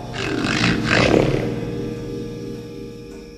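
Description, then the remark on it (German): A very loud, rattling snore from Hotzenplotz asleep on his sofa, with a deep, growling rumble that swells twice in quick succession, then trails off slowly over a few seconds. No one speaks. “Ja, Hotzenplotz schnarchte auf seinem Sofa, als wollte er einen ganzen Eichenwald kurz und klein sägen.”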